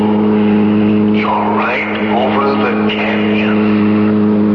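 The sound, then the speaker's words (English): A car engine runs loudly and steadily, then revs up and down in a few rising and falling surges before settling back into a constant low hum. “But the car. Not the car.”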